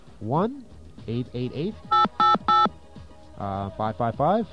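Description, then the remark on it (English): Three short touch-tone beeps dialing a number on a station's telephone system, in quick, even succession, loud, with a person talking just before and after them. “Let's get our trusty dial tone.”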